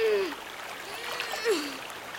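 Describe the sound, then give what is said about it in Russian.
Fast river water rushes steadily through a gorge, carrying a person along, with bursts of splashing, a continuous churning wash at moderate volume, with a couple of brief low gliding tones riding over it. “Быстрая река несет Олегшу по расщелине.”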